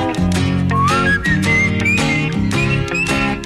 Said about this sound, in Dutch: Fluitend begin van je maandagochtend en zo hoort het ook.